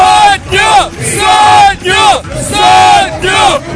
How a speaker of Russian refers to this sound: Сотню! Кричали на пермской трибуне.